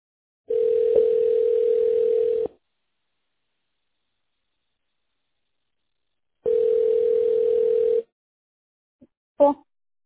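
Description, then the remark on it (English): A telephone line tone sounds while a call connects and is transferred to the operator: two long, steady, buzzy low tones of about two seconds each, separated by silence, followed by a brief click at the end. “Please wait while we connect your call.”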